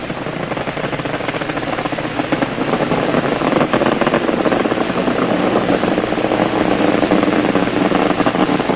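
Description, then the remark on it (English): A loud, steady roar of Space Shuttle Challenger's main engines throttling down to 65% during ascent just after liftoff on the Spacelab 2 mission, a dense rumbling wash of noise that continues unbroken throughout, with no voices. “They'll be throttling down to 65% throttles on their main engines.”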